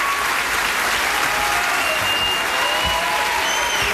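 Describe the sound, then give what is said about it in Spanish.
Steady, dense applause from a large crowd fills the space, loud and continuous throughout with no pauses, a few faint whistles or cheers riding above the clapping. “Fuerte el aplauso para la gigante Coté Quintanilla.”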